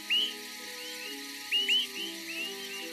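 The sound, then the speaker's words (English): Four short, rising whistled nocturnal flight calls of migrating Swainson's thrushes sound at irregular intervals, two close together, over a steady low background hum, with the last one faint. “Like many nocturnal travelers, the Swainson's thrush avoids predators by flying at night, because hawks migrate during the day.”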